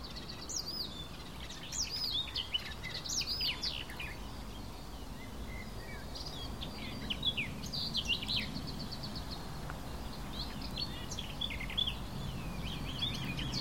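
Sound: red kite call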